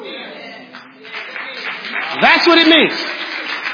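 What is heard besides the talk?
audience clapping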